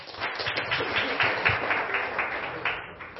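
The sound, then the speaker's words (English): An audience applauding as a speaker, the digital content editor of Kaya FM, is introduced: steady, dense clapping from many hands, a bright crackling patter that holds at an even, moderately loud level for a few seconds, with no voices over it. “Can we give her a warm round of applause, please?”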